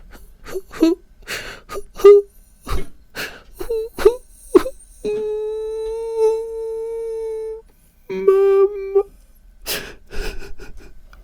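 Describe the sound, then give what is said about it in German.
A voice imitates a child's pitiful crying as heard in a waiting room: a run of short gasping sobs and whimpers, then a long sustained wail, a shorter second wail, and more sobbing breaths, fairly loud. “Es ist ja natürlich immer schwierig, wenn man selber nicht in dem Zustand ist, aber ein mitleiderregendes Weinen, Schluchzen, Jammern, so, ne?”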